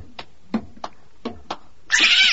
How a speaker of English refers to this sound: It's a cat! A cat! Get away! Get away!